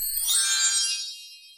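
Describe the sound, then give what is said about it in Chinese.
A bright, high-pitched chime rings out once, a shimmering metallic ding with a sparkly tinkle that lingers and fades over about a second and a half, with no voices over it; it is a cue to turn to the next page of a read-aloud children's story. “这个声音，要翻到下一页哦。”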